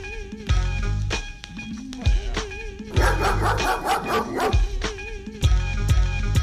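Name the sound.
dog barking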